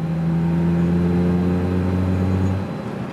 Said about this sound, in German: Um dennoch mögliche Schwachstellen frühzeitig zu erkennen, wird der Untergrund mit Vibrationstrucks untersucht.